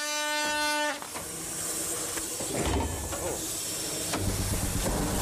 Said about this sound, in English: But will their 100-year-old engine puff its way into the lead, or will they run out of steam?